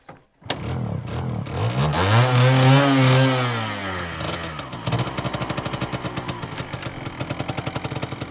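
A motorcycle engine starts up and revs, its pitch climbing and falling over a couple of seconds, then settles into a steady, throbbing putter as a woman rides from tea fields to a tea farmers' cooperative headquarters in the highlands of Rwanda. No one speaks.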